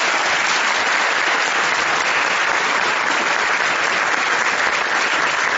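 A crowd applauds steadily, the audience clapping for themselves at the host's request, a dense, even wash of many hands clapping at a constant loud level throughout, with no voices rising above it.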